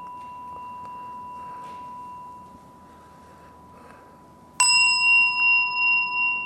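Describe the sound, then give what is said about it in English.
A gong is struck once, loud, after a faint lingering ring; its bright metallic tone sustains with a slow pulsing shimmer as it rings out. No one speaks. “Can you hear that gong okay?”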